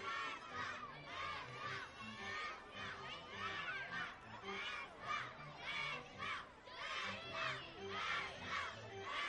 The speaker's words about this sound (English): Sounds like the kids are chanting baseball here at Nimeo Field at Harry Grove Stadium.